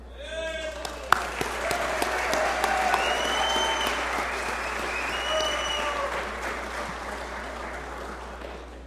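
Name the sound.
audience applause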